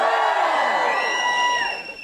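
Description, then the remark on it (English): A show audience cheers loudly when asked to cheer if they are in the 'guilty tribe', full of overlapping shouts, whoops and high-pitched yells that hold steady for about two seconds before starting to fade. “Give us a cheer if you're in the guilty tribe.”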